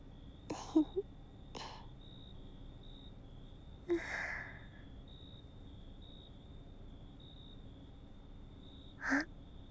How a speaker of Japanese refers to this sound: 旦那さん、あくびした。もうお眠？